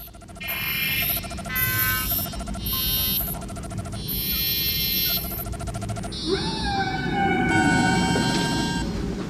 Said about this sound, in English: As suspected, the probe's transmissions are the songs sung by whales. Whales? Specifically, humpback whales.